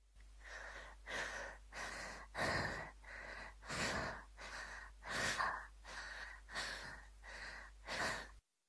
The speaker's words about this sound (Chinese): 呼吸和喘气。